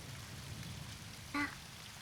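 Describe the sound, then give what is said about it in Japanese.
Steady rain falls in a continuous soft hiss with a low rumble, and one brief brighter tone or drip-like ping rises out of it partway through. No one speaks. “さ、雨の音に耳を澄ませると君の心が癒されていくよ。”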